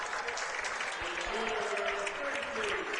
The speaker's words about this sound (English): As it gets rowdy in here, nice crowd. Yeah, great crowd tonight. Nice to see everybody coming on for a playoff game.